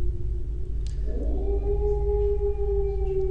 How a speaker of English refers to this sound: There's also very few elements down here, just triggering a growl every now and then, a little bit of wildlife.